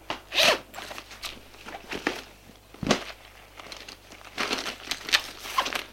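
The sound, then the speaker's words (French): A woman stuffs her torn clothes into her bag: bursts of fabric rustling and crinkling, with a quick zipper rasp, in uneven handfuls over several seconds. No voices. “Elle met ses vêtements déchirés dans son sac.”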